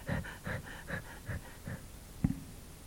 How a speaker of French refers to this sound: Terré dans son refuge, Ratafia haletait à bout de souffle.